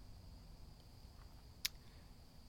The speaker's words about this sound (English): wonder if these are mosquitoes. I hope not.